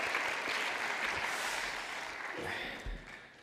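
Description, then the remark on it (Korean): A church audience claps together in a dense, steady wash of applause that holds strong throughout, fading slightly toward the end, with faint voices mixed into the clapping. The applause is offered to God after a group's Bible recitation and special song. “다시 한번 하나님 앞에 영광의 박수 올려드리도록 하겠습니다.”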